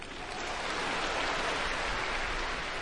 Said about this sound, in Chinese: 谢谢。 再次感谢大家给我的掌声鼓励。谢谢。